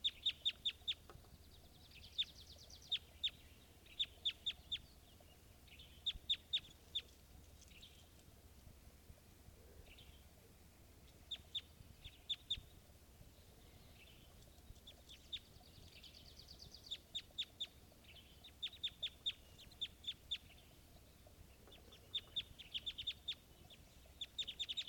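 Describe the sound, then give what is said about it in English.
A male-female pair of birds calling together in quick, high-pitched chirping bursts, repeated clusters of sharp clucking notes over a steady low background hum, with no talking. “And this is both birds.”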